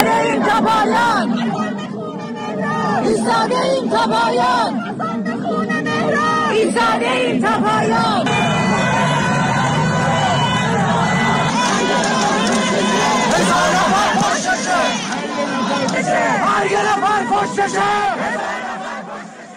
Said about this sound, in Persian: امروز، مردم انزلی در مراسم هفتم مهران سماک، جوانی که برای جشن و پایکوبی پیروزی آمریکا در برابر ایران در جام جهانی به خیابون اومده بود و با گلوله ساچمه‌ای جان خودش رو از دست داد، شعار مرگ بر خامنه‌ای سر دادن. بشنویم صدایی از یکی از این ویدیوها رو.